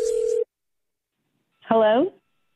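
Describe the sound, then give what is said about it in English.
A single short electronic telephone tone, like a dialing beep, sounds clearly and cuts off as a prank phone call is placed, followed after a brief silence by a short spoken voice. “So this should definitely go well in your phone tap right now. It's another phone tap.”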